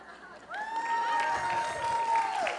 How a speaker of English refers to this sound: Okay, so that's how melodrama is supposed to work, with hissing and booing and clapping and cheering. You know, it's a participation sport, if you will.